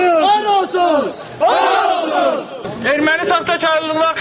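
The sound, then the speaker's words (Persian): A large crowd of protesters chants loudly in unison against Azerbaijani writer Akram Aylisli, shouting "death to you" while burning his photos and books; voices rise and fall in repeated slogan phrases with short pauses between the shouted bursts. “بنیده‌های شرمنده و مرگ بر تو هزاران نفر در زیر تیرزه خانه اکرم آیلیسلی، یکی از نویسندگان سرشناس آذربایجان، عکس‌ها و کتاب‌های او را آتش می‌زنند.”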